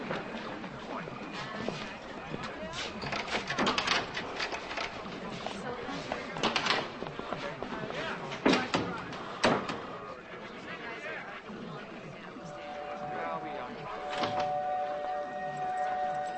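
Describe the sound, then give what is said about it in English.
A stuck door rattles and thuds as it is pushed, with a few sharp knocks and bangs standing out over a steady, busy background of murmuring voices and clatter. “my door's stuck.”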